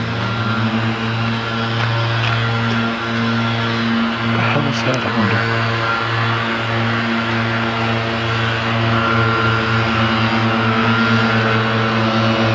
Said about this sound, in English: Leaf blower. Leaf blowers. Dueling leaf blowers.